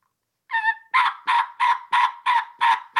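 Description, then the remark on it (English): A three-reed mouth turkey call, a tear-out with a slit, imitates a medium-aged hen's yelping: a run of about eight raspy, evenly spaced yelps in a steady rhythm, loud, with no talking. “A medium-aged hen.”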